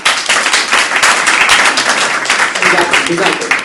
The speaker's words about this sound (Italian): quindi lo accoglierete sempre con un applauso e poi iniziamo.